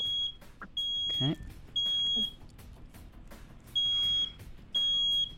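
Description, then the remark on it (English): A carbon monoxide alarm beeps loudly and shrilly, about five high-pitched tones of roughly half a second each in an uneven pattern, with a brief voice and low rumbling underneath. “Uh-oh. Warning. Ethan. Carbon monoxide. You have it.”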